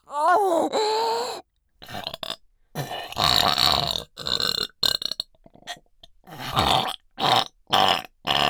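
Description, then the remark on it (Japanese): A run of loud, deep throaty burps from deep in the throat, several long rumbling belches in a row separated by short silent gaps, with no talking. “ゲップかいて喉まんこがいく。”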